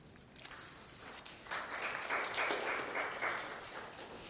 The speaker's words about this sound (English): I hope you're just clapping to the Lord, by the way.